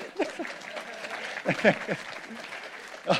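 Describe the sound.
An audience applauds steadily, a dense patter of many hands clapping at moderate volume, with a few voices calling out and cheering over the clapping.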